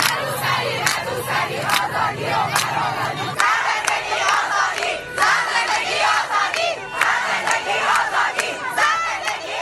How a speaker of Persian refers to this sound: دانش آموزان دختر تنها پشت درهای بسته کلاس‌های درس شعار نمی‌دهند، بلکه در خیابان همان فریادهای جامعه را سر می‌دهند.